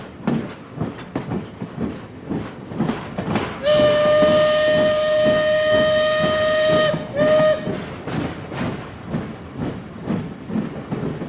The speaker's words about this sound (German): Jetzt habt ihr euch wahrscheinlich gewundert, warum ihr im Hintergrund ein Eisenbahnhorn gehört habt und außerdem das Rattern einer Dampfeisenbahn.